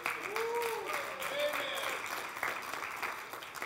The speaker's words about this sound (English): The applause is for him. 22 years he's put up with me.